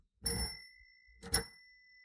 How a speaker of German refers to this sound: Das klang ja verhalten. Unsere Fahrradklingel klemmt. Verdammt. Muss ich immer wieder ölen oder was?